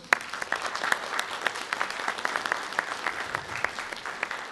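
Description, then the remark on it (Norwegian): An audience at a May Day (1 May) gathering claps steadily for several seconds, applauding the large turnout for the parade. It is a dense patter of many hands with a few sharper claps standing out, moderately loud, with no voices. “Det synes jeg vi skal klappe litt ekstra for.”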